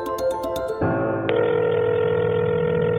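A telephone rings with quick electronic pulses before being answered, then gives way to a steady, humming tone that fills the rest of the moment. It's fairly loud, with no one speaking.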